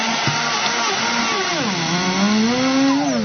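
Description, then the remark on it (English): The motor of a new lightweight 8-pound Auric XL vacuum cleaner hums steadily over carpet, its whining pitch sagging midway and then climbing gradually back up, continuous and fairly loud with no voices. “Vacuum that disgusting piece of carpet over there with a new lightweight 8-pound Auric XL.”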